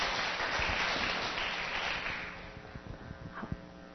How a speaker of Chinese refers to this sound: 好，我们来掌声欢迎第四队，谢谢第四队。